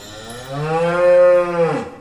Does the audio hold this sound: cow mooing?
yes